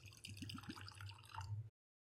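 A sample of whiskey pours into a glass in a short trickle lasting under two seconds, with a few bright gurgling splashes and no voices. The pour stops abruptly, leaving silence.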